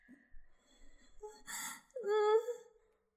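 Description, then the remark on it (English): A sudden, sharp breathy gasp cuts in as fingers slide across the throat, followed by a brief voiced, moan-like sigh that rises and fades. Soft breathing is audible before it, with no spoken words. “So I don't notice you move until I suddenly gasp as you slide your fingers across my throat and down my collarbone, making me shiver.”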